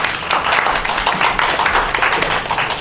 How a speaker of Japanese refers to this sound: 拍手で、拍手で。